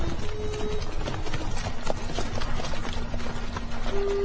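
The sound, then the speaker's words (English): A dense, continuous patter of many horses' hooves clip-clopping together as a mounted military company halts in a one-street town, steady and fairly loud, with a low rumbling bed of movement beneath and no talking. “Have them water the horses first.”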